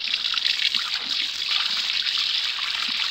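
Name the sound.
water running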